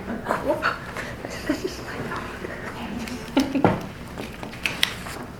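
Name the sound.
dog barking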